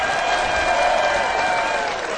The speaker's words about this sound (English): They're performing at the Welk Theater this year. This show is tearing up Branson. Folks, you're going to want to come and see these guys when you hit town. How about a big hand for the Million Dollar Quartet?